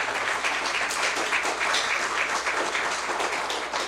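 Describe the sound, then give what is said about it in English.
A church audience claps steadily together, a dense, sustained wash of applause from many hands that holds at an even, fairly loud level throughout without any talking, thanking members who represented the church in Anaheim. “Could you give them a round of applause?”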